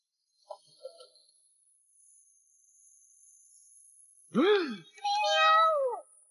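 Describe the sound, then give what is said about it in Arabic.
After a few seconds of near quiet with a couple of soft taps, a cat up high that needs rescuing lets out two loud meows in quick succession, the second longer and drawn out. “انظري إلى الأعلى، يجب علينا أن ننقذ هذه القطة.”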